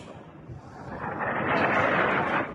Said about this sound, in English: Today in Tehran, the epicenter of this widening war, the plumes of smoke were massive and the explosions thunderous.